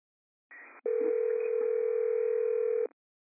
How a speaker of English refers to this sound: I don't know why the phone's ringing.